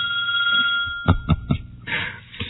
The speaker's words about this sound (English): He said to me, he said very loudly, "Oh, somebody's cell phone went off. I bet it's important."